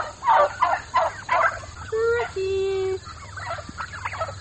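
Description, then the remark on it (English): Black Spanish turkeys, a rare breed, gobble on a farm in rapid, bubbling bursts, broken by a couple of drawn-out, higher calls before the burbling gobbles return. No one speaks over them. “She raises chickens, sells eggs, and owns a lot of turkeys, including a rare breed called a black Spanish turkey.”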